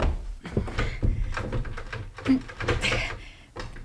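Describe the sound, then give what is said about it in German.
A jammed door, its frame apparently squeezed by an avalanche, is rattled hard, producing an irregular run of clunks and metallic clatters as the handle is yanked again and again for several seconds. “Die Tür klemmt.”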